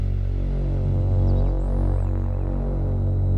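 A steady, dense Moog synthesizer drone from an app demo, with a low, buzzing, harmonic-rich tone and a hiss of added white noise layered over it, holding at an even loudness throughout with faint shifting high tones.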